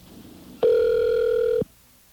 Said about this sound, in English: Let's see if we can actually get through to the Public Service Commission, see what happens when you call that number.